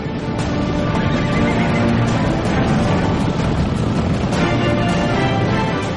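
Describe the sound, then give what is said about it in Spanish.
Mustang horses neigh and whinny loudly over a dense, continuous bed of herd noise, with hoofbeats faintly mixed in. No one speaks. “A finales del siglo XVIII, el caballo mesteño llega a Canadá.”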